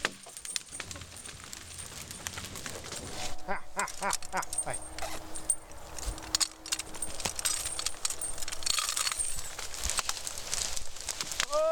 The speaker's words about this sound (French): Là, c'est la pause casse-dalle pour le cheval. Oh bah dès qu'il y a à manger, des 2 ou 3 feuilles, de toute façon.